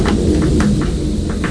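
An airplane passes overhead as a steady, low rumbling drone that holds constant throughout, with a few faint, brief bursts of higher noise on top and no voices.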